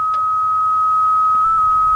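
A steady, unbroken electronic beep on a phone line after calling a theater holds one pitch for about two seconds, loud, with faint low hum and no talking.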